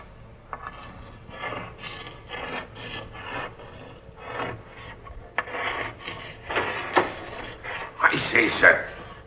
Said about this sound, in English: What be you doing sitting there writing on the captain's slate? Oh, ignoring me, eh? Now look here, you. This is Captain Strong's own cabin, and no one's got any business of sitting here writing.